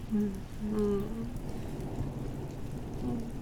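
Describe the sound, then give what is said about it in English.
Steady, continuous rain falls outdoors, a dense hiss with a low rumbling undertone, and a faint murmur drifting briefly through the background. “With the fire and the wind and the rain outside.”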